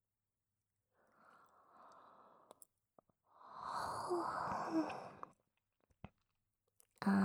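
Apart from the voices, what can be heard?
two people yawning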